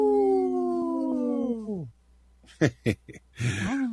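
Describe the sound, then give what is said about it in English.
The speaker's dog lets out a sustained, wavering howl that slides downward and fades, responding to a person's howl and coming over. After a short pause come a few quick yips and a brief whining cry. “At first, I thought it was a little lame howl, but that was enough to bring it.”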